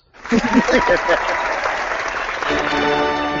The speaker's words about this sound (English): We are proud to be joined by the creative team behind the Boom Studios Broken World number 1, which came out yesterday, June 3rd. Massive yes. Applause.